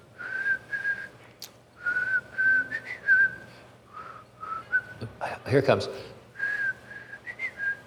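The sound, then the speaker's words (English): Someone whistles the Old Spice jingle in broken, halting phrases, fairly clear, with a brief spoken line and a rustling burst partway through. “All right, I am going to ask you to identify a jingle, but to do that, I have to whistle.”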